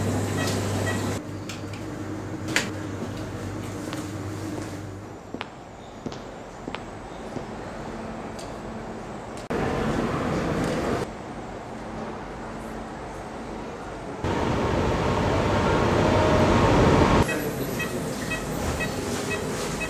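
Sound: train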